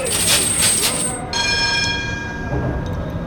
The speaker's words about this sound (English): The single bell means go.